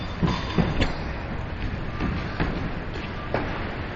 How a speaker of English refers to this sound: And the truck that just went by is called Faga Group.